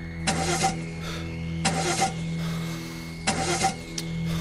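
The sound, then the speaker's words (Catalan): A car engine cranks three times in short grinding bursts, each attempt sputtering out without catching, over a steady low idle-like hum, as someone tries to start the car to drive away. Fairly loud, with no voices. “Així en Richard va agafar les claus del cotxe i va intentar marxar.”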